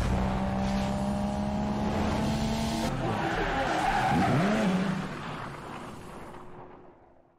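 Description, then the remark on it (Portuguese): Loud tire squeal and skidding from a BMW M5 V10 and a Mercedes E63, with engine roar and rising, bending whines for about five seconds, then fading away into a dwindling rumble. “É uma BMW M5 V10 e uma Mercedes E63, né?”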